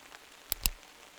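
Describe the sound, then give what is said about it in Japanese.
Two sharp, quick clicks of a ballpoint pen being clicked to push out its tip, about a sixth of a second apart, crisp and bright against a faint hiss with no voices. “芯出せる？”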